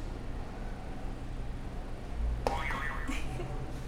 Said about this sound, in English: All right, go ahead and hit another buzzer for me. Did I already hit this one? I don't know. Hit it again for funsies.